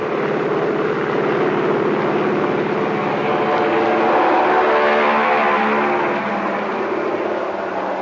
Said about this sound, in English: One man, Fly One, the plane dispatcher, has checked tires and motor. Now he's standing in front of the plane, whirling his right arm. The pilot revs up his motors. Fly One points down the deck, and the plane is off. Listen.